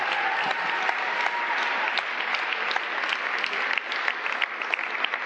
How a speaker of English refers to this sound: I think we should give them another round of applause.